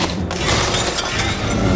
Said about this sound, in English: Judy picks up a tennis racket and swats at them. She hits one really hard and it flies into the window.